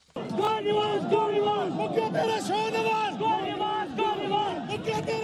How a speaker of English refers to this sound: A crowd of supporters for Pakistan's prime minister chanting "Go Nawaz Go" as Pakistan's Supreme Court has disqualified Prime Minister Nawaz Sharif from holding office and ordered him to step down immediately.